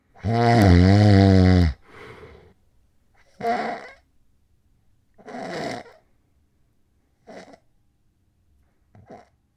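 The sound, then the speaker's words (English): A loud, rattling snore gives way to shorter, choked snorts and gasps separated by long silent pauses, the breathing stopping and restarting irregularly. No one speaks. “Okay, but now here is what's called sleep apnea.”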